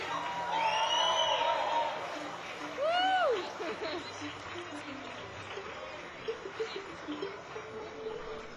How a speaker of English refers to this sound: big round of applause